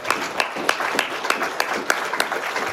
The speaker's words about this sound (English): You can clap for that.